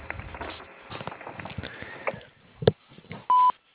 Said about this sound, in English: Please leave a detailed message as soon as you hear the beep, and someone will get back to you as soon as possible.